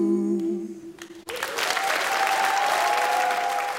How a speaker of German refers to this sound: Applaus. Ja. Dann lasse ich den Applaus machen. Ein bisschen im Hintergrund, das ist auch immer schön. Gut. Ja, der ist jetzt für uns. Ja, der ist jetzt für uns, nicht für die Band.